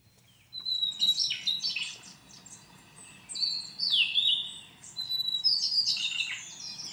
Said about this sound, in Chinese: 我一听就知道是台湾中海拔的小翼鸫跟叟鸟，所以其实这两种都是台湾的特有种鸟类。 哦， 对，前面你后面的像有点像冰淇淋的那个声音是叟鸟哈，黄胸美叟，然后前面那个像有点像一个啾啾啾啾那个声音，其实是小翼鸫。